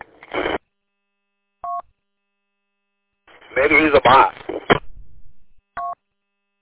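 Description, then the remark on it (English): Two separate touch-tone beeps from a phone keypad as a phone number is dialed to make a phone call, each a short steady dual-pitched tone, spaced a few seconds apart while a man speaks briefly between them. “Hey, I got to jump to make a phone call.”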